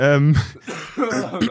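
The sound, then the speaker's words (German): A voice gives a couple of firm, rough throat-clearing sounds, mixed with short voiced grunts and noisy bursts of breath. “Da muss man sich erstmal feste räuspern hier.”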